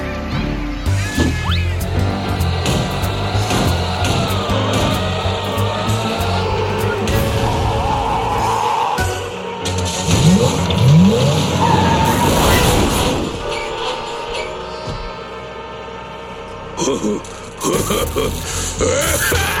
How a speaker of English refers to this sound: So, what would you like to do first, …? Bumper cars!